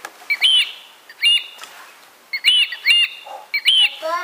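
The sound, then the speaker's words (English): A bird calls in a series of bright, sharp chirping phrases, about five short bursts separated by brief pauses, clear with no voices. “It's a bird. Yeah, it is.”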